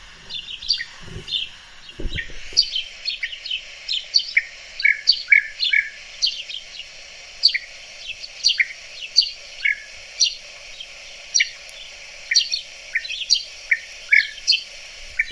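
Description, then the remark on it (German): Many short, bright bird calls repeat rapidly and overlap, like a flock keeping in contact, with steady chirping throughout and no voices present, in a garden in Hungary. “Ja, das ist ein sehr, genau, das ist ein sehr ruffreudiger Vogel und der sehr doll Kontakt hält, tritt meistens in großen Gruppen auf.”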